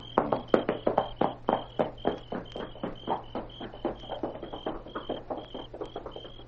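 animal, horse hooves clip-clopping

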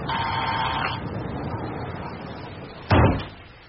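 household object, door being pushed open

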